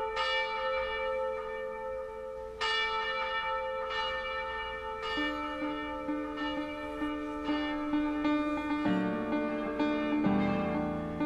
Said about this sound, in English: Church bells signaling yet another unjustifiable death.